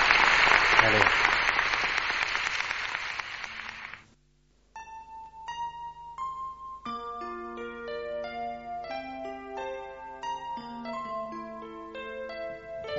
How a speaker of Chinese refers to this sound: 啊，我哋最后学到任何嘢咧，我哋鼓掌多谢神。